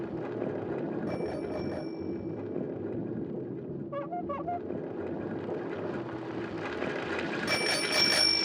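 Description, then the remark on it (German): A bicycle bell rings a few quick dings mid-clip, bright and clear against a steady rumbling background of traffic-like noise. “Fahrrad.”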